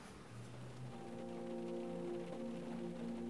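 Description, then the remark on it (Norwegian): Steady, continuous heavy rain pours down on Wednesday 25 November with a dense hiss, joined by a faint low droning hum underneath. No one speaks. “Det blitt onsdag 25. november, og regnet høljer ned.”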